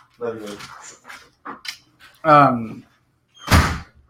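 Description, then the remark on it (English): A single loud door slam lands near the end, a sharp heavy bang with a brief rattling decay, following a few seconds of voices and a harmonic, bark-like sound. “Doors around here.”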